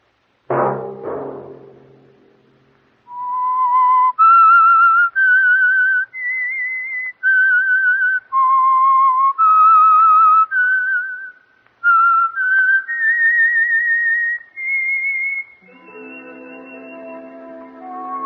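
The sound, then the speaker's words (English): A lone whistler carries a slow, clear theme melody of sustained, steady notes, loud, opening after a brief low thump and fading into a soft orchestral chord at the end. “Let that whistle be your signal for the Signal Oil program and the Whistler each Sunday night at this same time”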